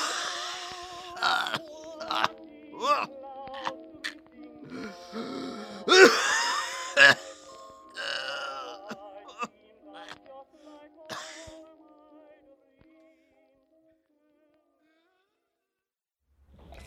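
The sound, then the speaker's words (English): A person gasps, sputters and coughs in a rough, strained fit of bursts and wheezy breaths, the spasms tapering off into silence after about twelve seconds. “You're choking on it right now.”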